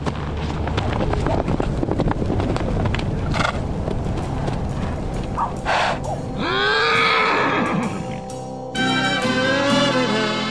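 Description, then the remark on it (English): Horses on a hill whinny and neigh loudly, two long wavering calls rising and falling in pitch in the second half, over a steady rough outdoor rumble and scattered hoof-like clopping. “We're going to walk up the hill. The horses are probably over the top.”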